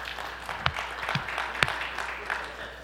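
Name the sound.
audience applauding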